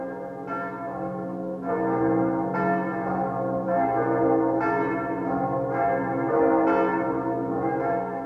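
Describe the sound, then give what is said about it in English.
Church bells of the half-ruined Kaiser Wilhelm Memorial Church (Gedächtniskirche) in West Berlin ring out in a steady, overlapping peal, new strikes arriving roughly every second over a sustained, resonant hum. Loud and full, with no voices. “The bells of the half-ruined Kaiser Wilhelm or Gedenkneskirche still standing in West Berlin.”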